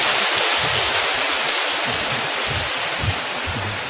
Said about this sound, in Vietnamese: Chúng ta cảm ơn cha sở bằng một tràng pháo tay thưa các bạn.